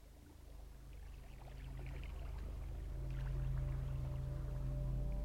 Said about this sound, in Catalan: Escolta el so de l'aigua.